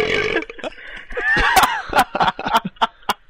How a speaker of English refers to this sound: This is now the burping podcast of Halo 2.